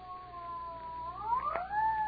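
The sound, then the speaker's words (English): An ambulance siren wails with a steady, high tone that slowly slides upward in pitch and swells louder toward the end, with no voices over it. “Why, I think it's the ambulance.”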